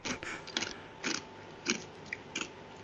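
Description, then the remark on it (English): Someone crunches on ice cubes, with sharp, brittle bites repeating every half second or so and quiet hiss between them. No one speaks. “You're chewing on ice, man.”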